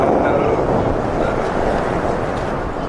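A strong, unseasonal wind roars steadily and loudly throughout, a dense rushing blast with low buffeting rumble, like gusts sweeping across open water.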